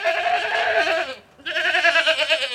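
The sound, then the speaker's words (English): Two loud goat bleats from a group of 26 goats, each long and wavering with a nasal, quavering tone, separated by a brief pause. “There are 26 goats.”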